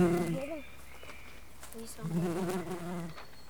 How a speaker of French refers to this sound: Si j'étais un son, je serais un bourdonnement de bourdon.